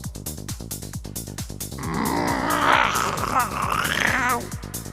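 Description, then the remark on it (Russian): A steady mechanical clicking ticks along, then a strained, raspy grunt from a mechanical cat sitting on construction scaffolding swells up close and fairly loud for a few seconds before fading back to the clicks. “Прокряхтело над ухом в ответ.”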